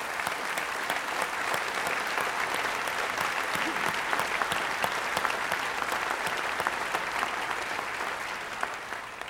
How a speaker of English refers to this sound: First of all, can we acknowledge and thank those who are in the prison ministry that are devoting their time to that? Would you clap? Give them a clap.